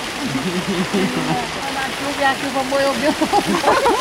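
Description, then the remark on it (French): Rainwater from a heavy tropical downpour in the Amazon leaks and splashes in a steady hiss of spattering water that runs throughout, with indistinct voices murmuring underneath. “Des petites fuites.”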